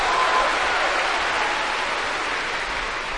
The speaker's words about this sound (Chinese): 谢谢朋友们的掌声。 哎， 如果说您这个掌声再热烈点会更好，谢谢。